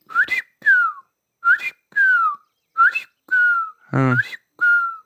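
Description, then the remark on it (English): A person whistles an imitation of a quail's covey recovery or gathering call, which calls separated covey birds back together: four repeated two-note phrases, each a sharp rising whistle followed by a longer falling one, clear and fairly loud, with no talking. “And then a few minutes later, you would hear them make this, what I would call a covey recovery call. Or a gathering call that was like a.”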